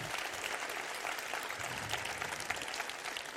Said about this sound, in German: Macht mal einen Riesenapplaus für Sven Hensel aus Bochum, Nile aus Leipzig, Sandra Davina aus Essen, Aaron Box aus Berlin und Christian Ritter aus Berlin.